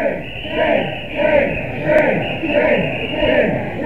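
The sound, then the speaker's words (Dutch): A large crowd marching in a street, escorted by three mounted police, chants "shame" over and over in a steady, loud rhythm. Each shout swells and fades about twice a second against a constant roar of massed voices. “Kunnen wij nu niet ophouden met shame, shame, shame te roepen, want het is de straat van het meest schaamtevolle wat je maar kan voorstellen natuurlijk.”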